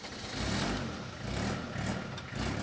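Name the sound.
truck engine starting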